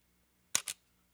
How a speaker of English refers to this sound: So that's the way the shutter sounds, just like that. That's the fully mechanical shutter. I think that sounds just fine.